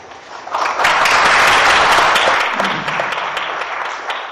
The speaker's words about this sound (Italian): Grazie. Rieccoci sugli applausi della conferenza, chiamiamola così.